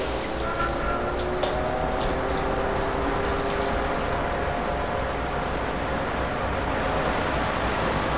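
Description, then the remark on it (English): A loud, steady vacuum suction roars without pause in a decontamination chamber, the vacuum stage of a decontamination procedure following a rinsing stage, a dense rushing hiss with a faint wavering whine running through it. No voices are heard. “Stage 2, vacuum.”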